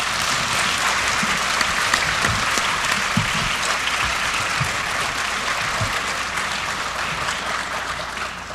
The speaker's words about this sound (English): Let's give a warm round of applause.